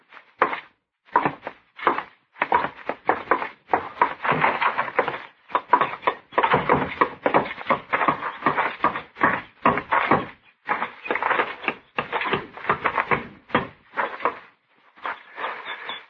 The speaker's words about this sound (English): I'd like to talk to him. Where is he? Out back, building the fence.